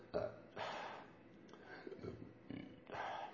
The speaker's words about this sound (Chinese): 现在灵化，你听，我都在打嗝，我的身体在灵化，你看。